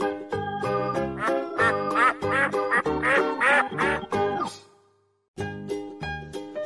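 bird, duck quacking

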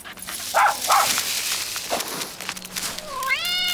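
animal, dog barking

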